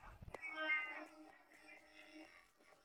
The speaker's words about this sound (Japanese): 猫。猫猫猫猫猫猫 猫。